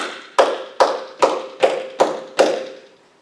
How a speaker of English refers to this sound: See how easy that is? And the thing is you don't stop clapping when you start singing.